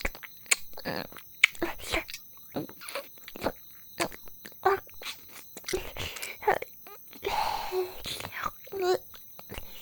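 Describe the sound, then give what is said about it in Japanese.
Wet sucking and smacking mouth sounds of a baby sucking on a soft baby snack it cannot yet chew, repeating in irregular bursts, with faint whispering in between. “ちゅぽちゅぽしゃべろうね。赤ちゃんはまだ噛めないもんね。”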